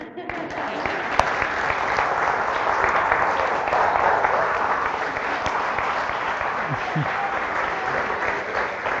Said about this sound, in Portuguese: Os aplausos com alguma intensidade.